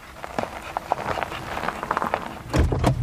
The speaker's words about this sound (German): Am Kieswerk steigen die Mitarbeitenden aus ihren Autos aus. Türen werden zugeschlagen, irgendwo piept eine Zentralverriegelung.